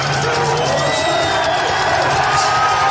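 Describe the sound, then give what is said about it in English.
A large crowd roars continuously, a dense wash of cheering and shouting voices with occasional whoops rising above the steady, loud din for the full three seconds. “This is a big crowd.”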